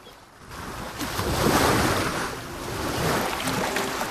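Ocean surf rushes and breaks on a beach in a broad, continuous roar that swells to a peak and then eases and surges again, with some wind noise and no voices.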